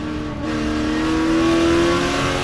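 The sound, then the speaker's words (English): A loud race car engine revs and accelerates, its pitch climbing steadily as it roars for a couple of seconds, with no voices, as Mike Hawthorn's Jaguar flies past Lance Macklin's Austin Healey during a race. “His Jaguar flies past Lance Macklin's Austin Healey.”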